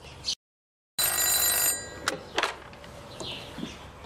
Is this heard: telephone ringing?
yes